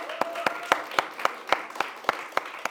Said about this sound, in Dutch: Mag ik een applaus?